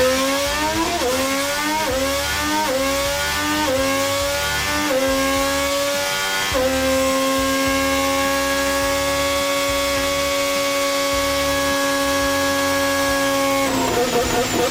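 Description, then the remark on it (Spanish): The new Honda Formula 1 engine for the 2026 season, supplying Fernando Alonso's team, revs hard, its pitch climbing in several quick steps before holding a loud, sustained high scream, then dropping off near the end. Continuous, with no talking. “Van a oír cómo suena el nuevo motor del Austin, el motor Honda, el equipo que va a suministrar los motores a la escudería de Fernando Alonso.”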